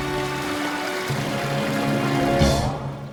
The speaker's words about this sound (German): Begeistert ließ Alex den Wasserschlauch fallen, vergaß aber leider, das Wasser abzustellen, das sich langsam, aber stetig überall verteilte.